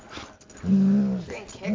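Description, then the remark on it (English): A dog lets out a loud, drawn-out growling moan lasting about half a second, followed by a shorter, softer sound of the same kind. “Hey, don't kick the dog.”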